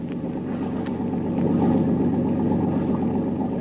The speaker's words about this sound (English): Listen, Tuan. Another motorboat maybe follow us. I hear it.